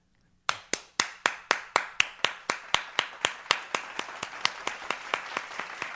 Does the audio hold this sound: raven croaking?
no